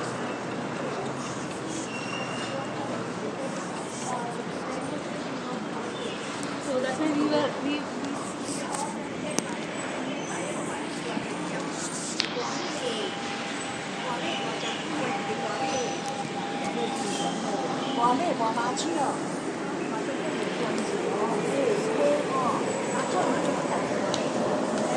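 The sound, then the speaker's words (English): Busy rail-station ambience with a steady rumble, a sustained metallic whine midway and a train sound swelling toward the end, while indistinct voices murmur in the background. “And it's right next to the train station too.”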